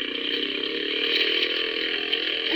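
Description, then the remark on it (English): A small motorboat engine buzzes at high speed across a smooth inlet toward a lighthouse, a steady, loud, whiny drone that holds an even pitch and volume for the full stretch, with no voices over it. “You think they'd give us a man-sized boat instead of this?”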